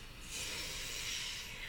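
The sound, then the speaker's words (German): A single long, steady deep inhale through the nose as part of a relaxation breathing exercise, a continuous airy hiss that lasts well over a second with no talking. “Und jetzt atmen wir ganz tief ein.”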